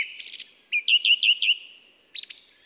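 A song thrush, the first bird to sing at the end of the night, sings clearly at dawn in a forest at about 1200 metres altitude on 1 June, repeating short whistled notes in quick runs, then pausing briefly before starting a new repeated phrase. No one speaks.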